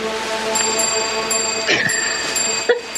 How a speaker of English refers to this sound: It's like every time he blinks, I'm gonna. Just hit this little bell.